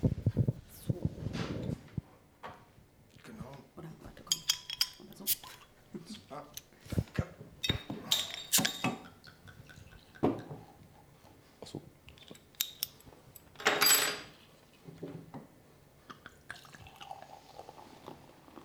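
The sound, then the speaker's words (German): Clattering handling of a bottle of Meisel & Friends West Coast IPA beer being opened, followed by liquid pouring with scattered clicks, drips and a short fizzing rush, with brief murmurs of voices. “Und deswegen habe ich heute den Meisel & Friends West Coast IPA mitgebracht. Und das machen wir jetzt mal auf, oder?”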